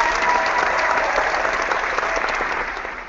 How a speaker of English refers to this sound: So, but let's give a round of applause for the return of Newcastle player Jonas Gutierrez.